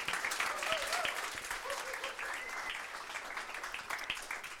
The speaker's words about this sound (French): On peut les applaudir pour les encourager, ils ont besoin de